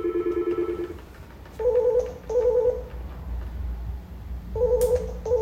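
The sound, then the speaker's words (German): A telephone tone rings in short electronic bursts: one low buzz, then two higher paired rings, a pause, and another pair starting, steady and moderately loud with no talking. “Warum klingelt das?”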